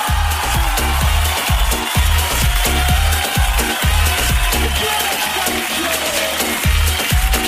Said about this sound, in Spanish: Muy bien, un aplauso para él. Un aplauso.